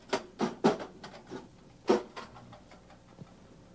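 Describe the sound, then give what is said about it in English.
Irregular clatter as an old toolbox is opened and its contents rummaged through on a call to fix a sink that won't drain, with a quick cluster of sharp knocks and scrapes, a pause, then a few softer fading clinks. “Open up the old toolbox.”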